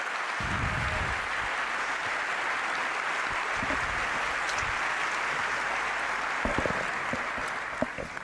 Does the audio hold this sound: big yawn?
no